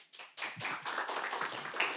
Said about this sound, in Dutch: Oké, aan de hand te horen van het applaus zijn het de mensen met je eens. Maar ook misschien wel oneens.